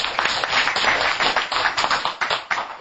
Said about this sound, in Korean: 우리 모두 온라인 얼굴은 모르고 이름은 모르지만 온라인 회복 참여자 모든 분들을 위해서 우리 함께 그분들을 위해서 박수를 받아갑시다.